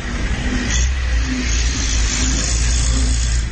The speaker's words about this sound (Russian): вот мы на заправке. Ну, машин хватает, едут. В принципе, тут все видно.